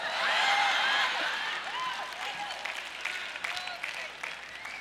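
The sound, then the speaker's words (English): A crowd applauds steadily for several seconds, the dense clapping easing slightly toward the end, with scattered voices and whoops rising through it. “Well, some of you are clapping because you know that was not a big burly dude.”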